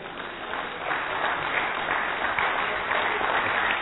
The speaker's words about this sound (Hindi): जोर से, सभी जोर से ताली बजाएंगे।